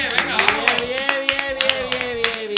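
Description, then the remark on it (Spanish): Quick, steady clapping rings out in a studio to applaud the champions, Lega, sharp hits in a brisk rhythm for a few seconds, with a drawn-out voice carrying underneath. “¡Un aplauso muy fuerte! ¡Un aplauso, hombre!”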